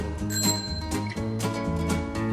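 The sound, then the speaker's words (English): A bicycle bell rings a few bright, metallic dings over a steady, full musical backing, the chimes clear. “Ding, dong, ding, hear the bicycle bell. Ding, dong, ding, hear the bicycle bell.”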